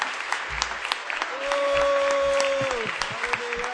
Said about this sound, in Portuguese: Batemos palmas como parte do Teu povo. Celebramos, aclamamos Te com júbilo. Rei Jesus.